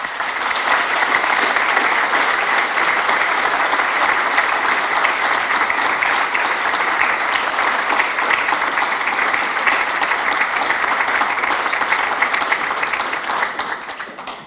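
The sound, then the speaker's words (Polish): Sustained audience applause, a dense crackle of many hands clapping at a steady, loud level for the whole stretch before tapering off at the very end. No talking over it. “Więc dla nich wielkie oklaski.”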